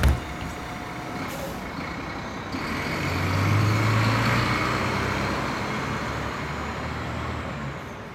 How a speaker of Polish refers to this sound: O, mój autobus jedzie.